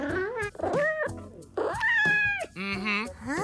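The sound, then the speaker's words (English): A pet cat meows several times in a row, a loud string of drawn-out, rising and falling calls with one longer, wavering meow in the middle. “Run us through a typical day in your life as a pet cat.”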